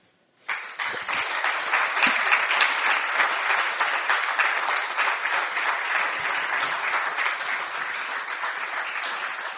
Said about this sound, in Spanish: Hemos empleado un sistema nuestro para dar las gracias, que es con un aplauso.